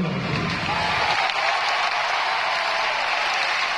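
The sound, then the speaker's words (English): A large street crowd in Catalonia, outside during the Catalan president's speech, cheers and applauds as he says Catalonia would become an independent republic, in a steady, dense roar of clapping and shouting that holds loud and unbroken throughout, with a low rumble of voices fading early on. “The crowd erupted when he said those words, independent republic.”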